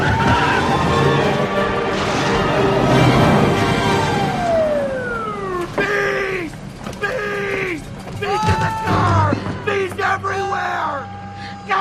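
Several people scream and yell loudly as they run out of a stopped car, with long wailing cries that rise and fall in pitch, overlapping in frantic bursts over a rumbling background.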